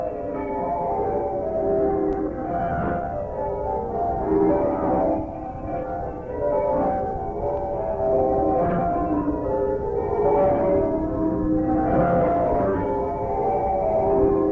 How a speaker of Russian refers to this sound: По крайней мере, один источник утверждает, что оригинальная запись была сделана в 1926 году, то есть 100 лет назад. Многие записи позывных колоколов Боу можно найти в интернете на YouTube.